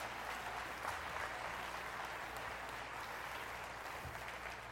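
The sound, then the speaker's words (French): An audience applauds the God of mercy during a sermon, with dense, steady clapping that holds at an even level for the full few seconds, with no voices standing out above it. “Quelqu'un devrait dire « Amen » et applaudir le Dieu de la miséricorde.”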